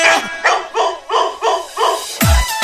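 A dog barks about six times in a quick, steady series, loud and close, with a final bark that ends in a deeper thump. No one speaks.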